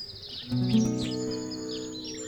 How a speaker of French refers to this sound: On entend les oiseaux chanter.